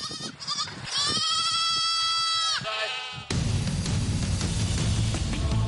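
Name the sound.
goats and sheep bleating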